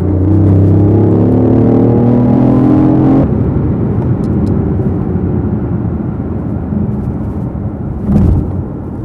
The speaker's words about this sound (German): weil er einfach bei 170 macht der Wagen dicht. Also eigentlich bei 190 laut Beschreibung, aber 170 ist er dann dicht, also mein Fahrzeug.